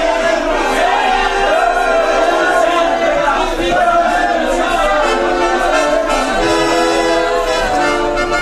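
A large crowd cheers and shouts 'many years' together in acclaim of a princess, a dense, continuous roar of many overlapping voices, loud and sustained throughout without pause.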